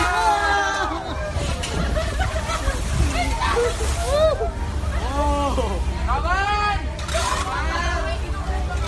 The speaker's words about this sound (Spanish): Poco relax hay ahí y muchas palas removiendo, porque las olas que llegan a Manila, en Filipinas, no suenan como las que hemos escuchado al principio, suenan a golpetazo limpio, porque esas olas arriban y llegan con miles y miles de plásticos.